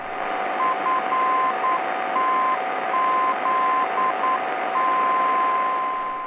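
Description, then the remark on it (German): A steady tone keys on and off in Morse code dots and dashes over a constant hiss of radio static, repeating a short identifier with no voices present. “Die Barke in der Nähe des Heeresflugplatzes Fritzlar auf der Frequenz 468 kHz sendet im Morsecode die Kennung FTZ.”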